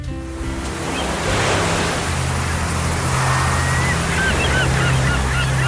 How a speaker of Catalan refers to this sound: Les gavines.